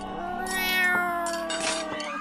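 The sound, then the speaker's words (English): A cat meows in a long, drawn-out tone, fairly loud, with a few faint clicks and taps underneath and no one talking. “There is a cat headed this way.”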